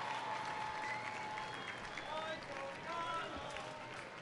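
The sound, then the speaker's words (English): A big crowd at Maimonides Park, Coney Island, Brooklyn, applauds before first pitch of a Cyclones versus Drive baseball game on Eastern European Day, in a steady, dense wash of clapping and cheering, with thin high whistles rising above it for the full four seconds. “Big crowd on hand here tonight as the Cyclones and Drive get ready to close up this series.”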